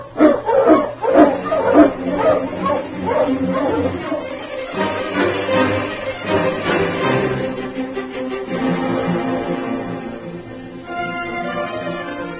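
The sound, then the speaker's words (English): A pack of sled dogs barking and yelping excitedly, loud, with overlapping howls and yips rising into a continuous noisy chorus, as the dogs are got up to hit the trail. “Get the dogs up, King.”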